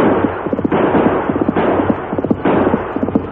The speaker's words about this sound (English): Then the Hawk turned and fired.